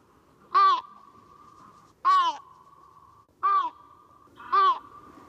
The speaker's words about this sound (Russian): И вот в моем распоряжении, в нашем распоряжении есть голос летящей самки большой выпи. И предлагаю тоже его послушать. Голос, который напоминает чем-то карканье.